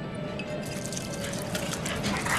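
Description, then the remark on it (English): Champagne pours steadily from a bottle over a man's face, splashing in a continuous wet, dripping rush with a faint fizzy hiss, heard alone without any voices. “Salazar pours the contents of the bottle over Jack's face, bringing him round.”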